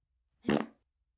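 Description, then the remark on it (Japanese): A single short fart, a brief buzzy burst lasting about a third of a second, moderately loud, with no talking around it. “先生の臭いおなら必死に匂いながら、惨めにしこりなよ。”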